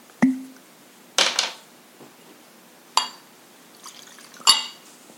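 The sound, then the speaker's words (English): Liquor from a second batch splashes into another glass in a few short bursts, with bright clinks of glass between them and quiet pauses; no one speaks. “I'm gonna pour batch number two.”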